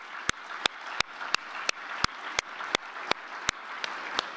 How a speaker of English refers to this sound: So big round of applause for...